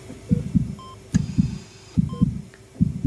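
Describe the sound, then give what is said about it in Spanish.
Operating room monitor beeps from machines monitoring life sound in a steady rhythm over a low, constant electronic hum, with soft thudding artificial heartbeat-like pulses repeating in pairs. No one speaks. “Es un murmullo constante y controlado, lleno de pitidos rítmicos, de zumbidos electrónicos. Son máquinas que monitorizan la vida.”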